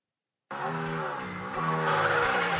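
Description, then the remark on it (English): A car engine roars to life after a moment of silence, a loud, sustained rumble with rich harmonics that swells even louder partway through as the revs climb, heard alone in an advert for Auto Show 2016 in Reno. “You can't feel the roar of the engine through this.”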